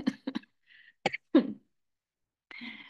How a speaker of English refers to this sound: You can probably tell I'm trying not to cough.